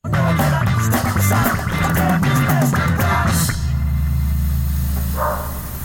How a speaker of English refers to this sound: Did you guys hear the doggy? Yeah. I forgot about that. I knew it was there, and I didn't mention it last week. So, uncredited vocal performance by a dog. We don't know the dog's name.